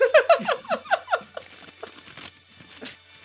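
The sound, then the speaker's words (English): Paper being torn and crinkled off a taped present: a quick run of loud ripping bursts in the first second, then softer, scattered rustles and a final small tear. “I love opening paper presents.”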